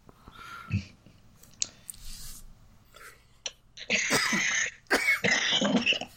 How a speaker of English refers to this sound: Sorry, I'm coughing all over the place here. So am I.